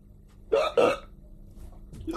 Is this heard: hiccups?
yes